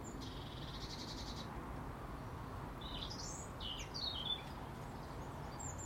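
Morning birdsong: a rapid buzzy trill opens, followed by scattered high chirps and whistled notes from several birds over a steady low rumble of background noise.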